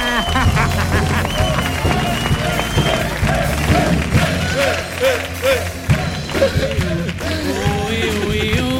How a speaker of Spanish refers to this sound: ¡Fuerte el aplauso para Patrica!